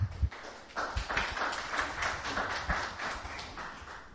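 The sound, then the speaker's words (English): A church audience applauding together, a dense, steady patter of many hand claps that holds for a few seconds at moderate volume with no voices over it. “Don't clap yet.”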